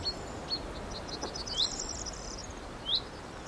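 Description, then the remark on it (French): A chaffinch gives short, thin, high alarm notes because people at a bird-count listening point are disturbing it, two clearer calls spaced a second or so apart, among fainter chirps over a steady outdoor hiss of insects and breeze. “on entend un pinson qui est en train de faire un cri d'alarme parce qu'il a probablement un nid pas trop loin”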